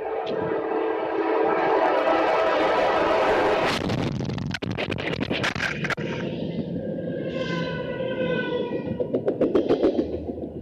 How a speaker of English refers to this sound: I just got hit by a train. That didn't sound that bad, actually. Hello. It sounded pretty bad, like the moment of impact. Oh. I mean, he was sideswiped by it.